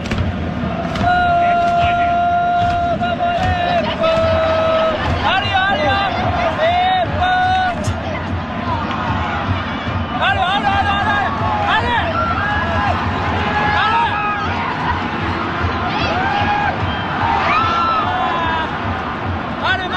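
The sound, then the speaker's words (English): A large crowd at a soccer match involving Japan sings a repetitive looping chant in unison, loud and continuous, with many voices blending into a constant roar and occasional cheers rising above the singing. “Japan almost scores a goal, and then he loops right back into the song. So it just, it never stops. You're either cheering yep. or singing the whole time.”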